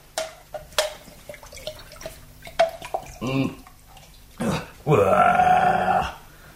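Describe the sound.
Water pours steadily into a container for about a second, its tone rising as it fills, after scattered drips and knocks and a brief grunting voice.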